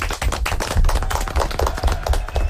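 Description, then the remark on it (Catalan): Loud applause from a group, a dense, steady patter of overlapping hand claps that carries on for the whole stretch with no voices standing out. “Fort aplaudiment.”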